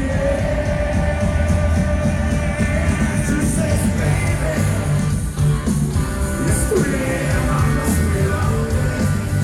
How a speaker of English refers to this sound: There it goes. Can you hear the crowd singing? Everybody just getting into it.